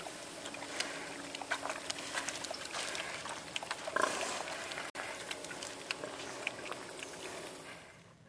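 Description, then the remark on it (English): Pigs being fed grunt and squeal in a busy, continuous jumble of snorts and oinks, fairly loud, with a messy wet, sloshing undertone like animals jostling at a trough. “Here I am feeding pigs.”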